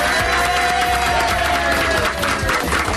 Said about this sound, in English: And from all of us, live from Ilkeston in Derbyshire. Applause to end, you think? Yes, you ready?